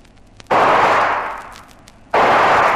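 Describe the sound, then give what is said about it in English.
Two loud gunshots fired by a man being chased, shooting back at his pursuers, each a sharp crack that rolls into a long, rumbling decay, the second following about a second and a half after the first. No voices. “We should have guessed he'd shoot.”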